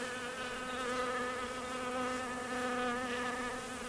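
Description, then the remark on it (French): A dense, steady hum of hundreds or thousands of bees buzzing together, continuous with slight wavering in pitch, as they lick honeyed water from the skin of a person sitting in a bathtub filled with honeyed water; no voices. “Je me trouve dans une baignoire remplie d'eau miellée et j'ai sur moi peut-être quelques centaines, voire quelques milliers d'abeilles qui me lèchent parce que ma peau est enduite d'eau miellée.”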